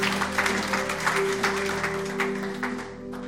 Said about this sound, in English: Can we give the Lord a clap offering this morning around that message? Awesome, Lord.